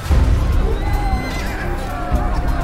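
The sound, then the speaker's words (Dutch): Horses of French knights whinny loudly and repeatedly over a dense, rumbling clatter of hooves as they reach a wall of Flemish soldiers' lances, with a busy, crowded low-end roar beneath, as if many animals are agitated. “Toen de Franse ridders bij de eerste Vlaamse soldaten aankwamen, aarzelden hun paarden voor de muur van lansen en goedendags.”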